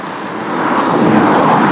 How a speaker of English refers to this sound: Oh yeah, cars.